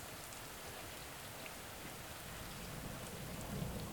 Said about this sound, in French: La pluie lavait la laisse de mer, les crabes, les rochers, les anémones, et même les pêcheurs à pied.